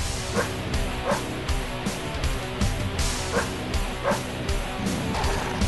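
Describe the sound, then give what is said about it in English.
A pit bull barks and growls in steady, repeated bursts over loud, dense heavy metal music, its snarling yelps landing roughly in time with the pounding beat. “Here's a song yes. of metal and a pit bull.”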